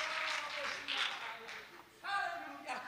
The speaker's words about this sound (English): Give the Lord a hand clap of praise as you're seated in the house of God tonight. Hallelujah.